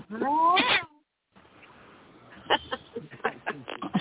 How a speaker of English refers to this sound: Whoever did that was pretty good. That cat, it sounded a little angry, though. Really angry.